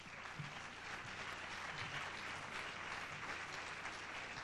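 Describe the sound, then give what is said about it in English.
A crowd claps steadily in sustained applause welcoming a man, a dense, even wash of hand claps with no voices rising above it for the whole stretch. “give him a nice round of applause, please.”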